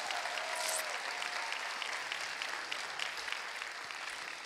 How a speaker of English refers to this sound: you still believe in Christmas, why don't you give the Lord a big round of applause in this place?